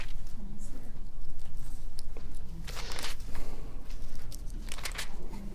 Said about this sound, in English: Okay. If I can get these little paper-thin pages here to turn.